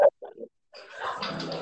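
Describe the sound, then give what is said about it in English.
Dogs make noise in the background, starting with a few short grunting yelps and then breaking into a longer, rough snorting and growling stretch, with no one talking. “My dogs.”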